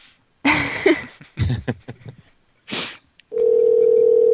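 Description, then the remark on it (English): A few bursts of phone-handling clatter and rustling, then a steady, loud telephone dial tone that hums continuously to the end, with no talking, as a call is placed back to Domino's about a pizza delivery order. “Hold on, I gotta call the Alton guy back.”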